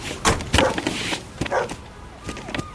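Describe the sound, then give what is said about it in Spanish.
Dogs brought to search a truck bark in a string of sharp, irregular bursts, mixed with a few higher yips and whines, moderately loud against a low background rumble. “Morris, los bajos. Venga, con los perros.”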